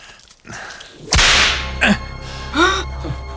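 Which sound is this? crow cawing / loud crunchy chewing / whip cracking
whip cracking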